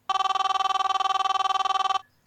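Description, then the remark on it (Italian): A telephone bell rings in one continuous burst of about two seconds, a loud, rapid metallic trill that cuts off abruptly, with no voices over it. “il telefono?”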